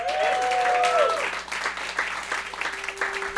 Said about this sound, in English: Give it up for the multimedia crew and our engineers.